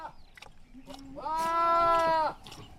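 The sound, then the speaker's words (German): A single loud sheep bleat, lasting about a second with a wavering, nasal tone, from a pen beside a house where about 20 sheep stand together, set against a quiet outdoor background with faint rustling before and after. “Rund 20 Schafe stehen dort zusammen.”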